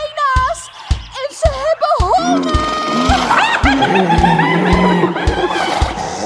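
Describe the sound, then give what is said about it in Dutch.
A hyena's cackling laugh: a rapid run of high, wavering giggle-like yelps, loud, repeating steadily for several seconds and growing denser and more overlapping toward the end. “Een hyena komt eraan, eet die al uren lang.”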